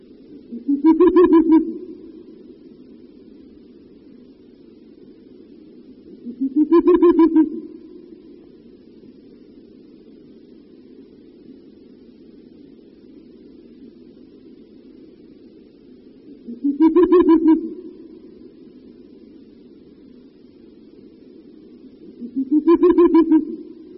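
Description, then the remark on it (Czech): A male Ural owl near its nest gives four deep hoots at spaced intervals, each rising out of a low continuous rumbling, bubbling call that runs steadily underneath throughout. “Na následující nahrávce uslyšíme opět hlas samce, který poblíž hnízda někdy doplňuje své houkání hlubokým bublavým vábením.”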